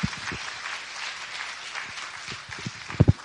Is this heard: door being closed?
no